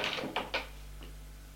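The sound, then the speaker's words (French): A key turns in a bedroom door lock as a woman locks her bedroom door at night: three quick metallic clicks and scrapes, then a fainter final click, over a low steady hum. “Elle a fermé la porte de sa chambre à clé”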